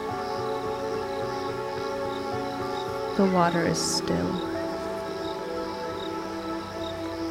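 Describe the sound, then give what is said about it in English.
Crickets chirp steadily from the shore of a lake alongside soft, sustained ambient tones, while a voice briefly speaks partway through. “You hear loons call, crickets chirp from the shore.”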